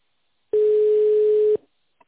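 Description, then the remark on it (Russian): One steady, clear telephone ringback tone about a second long, heard as a call to the company Navisét is transferred to the sales department, a pure mid-pitched hum that starts and stops abruptly, followed by a faint click. No voices. “Ваш звонок переводится в отдел продаж.”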